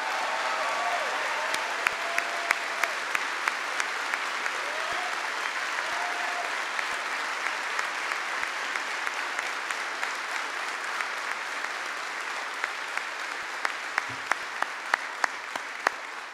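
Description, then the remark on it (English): Sustained applause from a large standing audience fills the whole stretch, a dense steady clatter of many hands clapping with a few sharper claps popping out, no voices standing above it. “But please give them a big round of applause.”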